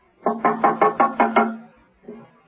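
Six quick, evenly spaced knocks rap on John Steed's open front door as Mrs. Peel knocks and enters, loud, followed after a short pause by a single softer knock-like thud.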